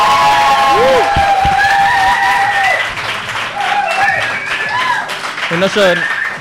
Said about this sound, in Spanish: No son en lata, los aplausos. Mucho mejor. Suenan diferentes.